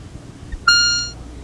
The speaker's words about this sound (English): The beep consists of a short burst of audio tone which is automatically placed on the line about every 15 seconds. You will now hear the beep tone alone.